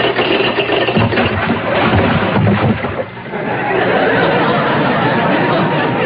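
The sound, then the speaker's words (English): A ship dropping anchor: a dense, loud rumble of engine noise mixed with gritty rattling, as of chain paying out, continuing steadily for several seconds with a brief dip partway through. “Next, a ship dropping anchor.”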